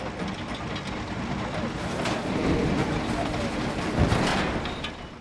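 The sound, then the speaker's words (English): Steady industrial rumble of a railway freight yard where coal from a mine is loaded onto trains bound for other parts of Russia and China, coal wagons and rail machinery grinding along, with a swell in the middle and a brief louder clank near the end. “freight yard, where coal from the mine is loaded onto trains bound for other parts of Russia and China.”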